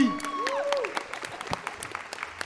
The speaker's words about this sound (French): Et on les applaudit.